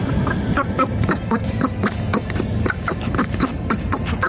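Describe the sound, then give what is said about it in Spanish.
A garbled, nasal voice sputters in rapid quacking bursts, sounding like a duck babbling, as it played on COPE Cádiz radio. The chatter is steady and fairly loud, with several quick squawks each second. “Parece el Pato Dona.”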